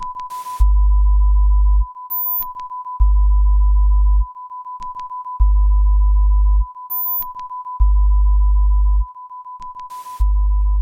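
A steady pure sine tone hums throughout while deep bass pulses thud on and off in a slow, regular pattern, with faint clicks and brief high pings scattered across a sparse, empty backdrop.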